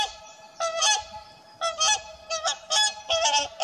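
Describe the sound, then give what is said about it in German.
Wild geese honk repeatedly in loud, nasal bursts, several calls overlapping in an irregular chorus with brief gaps between them, in the Elbe river floodplain. “Wildpferde, Weißstörche, Reiher, je nach Jahreszeit bestimmt der Ruf wilder Gänse, das Trompeten der Kraniche oder das melodiöse Tönen der Singschwäne die Luft.”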